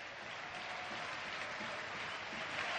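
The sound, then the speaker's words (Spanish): Steady applause from the few Villarreal fans still in the stadium stands, applauding the players after the match, a dense continuous patter of clapping that holds at a constant level throughout, with no talking over it. “los pocos aficionados del Villarreal que aún se mantienen las gradas para, bueno, pues recompensarles con ese aplauso, porque la verdad se han dejado la vida hoy en el partido y han hecho un auténtico partidazo.”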